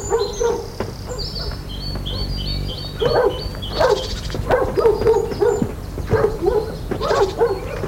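animal, dogs barking

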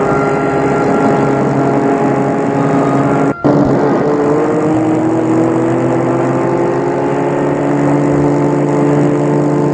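vehicle, car engine running

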